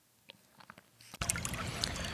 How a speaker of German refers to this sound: Ja, und da hören wir gerade im Hintergrund den Heisterbach. Das ist ja der Heisterbach, das ist ein kleiner Bach hier im Siebengebirge. Das ist ein Kraftort